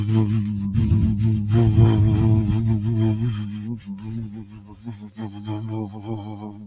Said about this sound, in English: And that is, I call this buzzing. And I do this when I'm driving, because I find the buzzing actually kind of stimulates my body and relaxes my body. So try this with me. Here we go. You want your lips to vibrate.